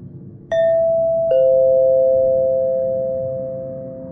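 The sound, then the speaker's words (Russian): A flat's doorbell, rung by a neighbour from flat 48, gives a loud two-note ding-dong, a higher tone followed by a lower one that rings on and slowly fades over a faint low background hum. “Этот звонок показался мне взрывом.”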